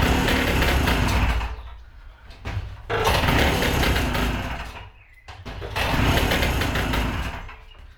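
A small engine that has stood unused for a long time sputters to life in three loud, rough bursts, roaring briefly before dying down each time as it struggles to catch. No one speaks.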